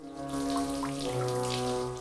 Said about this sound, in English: Water is running over the bath. She goes to investigate and turns off the tap.